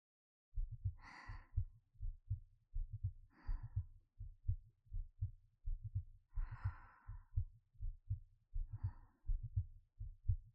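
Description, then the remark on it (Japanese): A steady heartbeat heard up close with the ear against a person's chest, low thumping pulses in a regular double rhythm, with slow soft breaths rising over it every couple of seconds. “こうすれば、私の心音が、よく聞こえるでしょ？”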